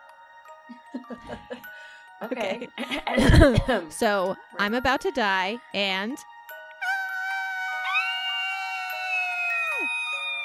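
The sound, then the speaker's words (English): After a few spoken words, a voice lets out hushed, wavering wails, then holds a long, thin, high-pitched shriek that slides up and abruptly drops away, an imitated banshee scream. “Our sign off this week, I think, should be a very quiet, because babies are sleeping, a very quiet banshee scream.”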